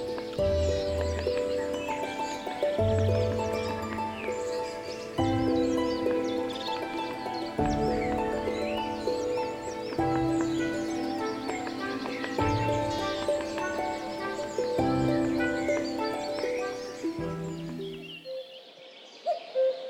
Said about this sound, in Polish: Chyba nic nie muszę tłumaczyć, ale dla formalności powiem kukułka. Ptak z podrodziny kukułek, rodziny kukułkowatych, rzędu kukułkowych.